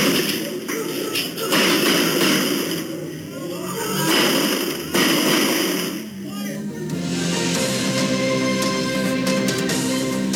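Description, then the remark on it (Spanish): Several sharp gunshots crack out at irregular intervals, fired from a vehicle near bus stop 26 in Cerro Rodelillo, Valparaíso, over a continuous layer of rumbling street noise and indistinct background voices. “pudimos escuchar diferentes disparos provenientes desde un vehículo.”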